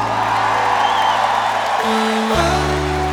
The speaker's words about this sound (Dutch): We willen graag een warm applaus voor onze broer